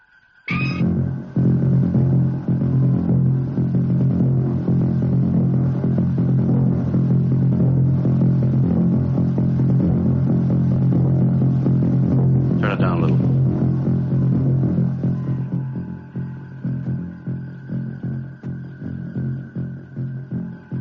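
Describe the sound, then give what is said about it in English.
Combined heartbeats of all the people on board a ship blur into a loud, continuous low throbbing rumble with a steady faint hum above it, a brief rattling burst midway, then easing slightly toward the end. “Gentlemen, that sound is caused by the heartbeats of all the people on board the ship.”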